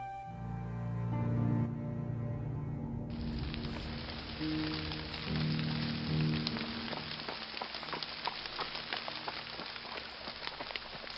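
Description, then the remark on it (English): Heavy rain pours steadily, a dense hiss full of crackling droplets that swells in after a few seconds over a low, droning background and continues without pause. “The pouring rain didn't bother him, nor the stubborn horse between his legs.”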